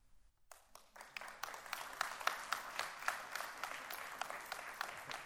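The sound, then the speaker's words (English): A small audience breaks into applause after a brief silence following a poetry reading, the claps scattered and uneven rather than a full roar, fairly quiet, continuing steadily for several seconds. “I feel like now we're in this like weird, like guilty liminal space between a clapping audience and like a silent reverent audience.”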